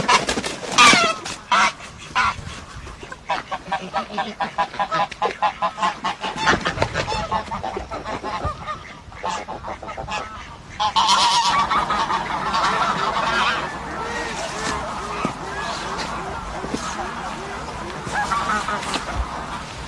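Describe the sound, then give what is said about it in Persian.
A flock of greylag geese, drawn into a trap and caught, honking loudly and continuously, their overlapping calls forming a dense, agitated chorus with a brief lull before the noise swells again; the caught geese came from far-off Siberia. “اون پرنده‌های دمده رو میبینن، اون پرنده‌های جلو رو میبینن و جلب میشن به داخل.”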